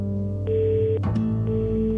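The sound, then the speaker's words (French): Two half-second electronic telephone ring tones, one per second, sound clearly over a steady musical background, with a brief clatter between them. “Au bout du téléphone, les gens disent allô.”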